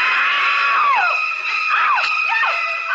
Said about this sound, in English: The first scream that the actress gave was a real scream. It was filled with noise. Apparently, Hitchcock, A, wasn't telling her what to expect, and B, turned down the water from hot to cold.